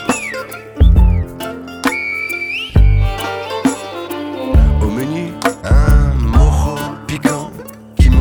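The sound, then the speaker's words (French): Shrill human whistling in El Silbo, the whistled language of La Gomera island, echoes between two mountains as a man whistles to invite himself to dinner, with gliding, rising pitches in short calls over a dense backdrop of sustained low tones and music-like harmonics. “Entre deux montagnes amarrées aux nuages, un guanché siffle pour s'inviter à dîner.”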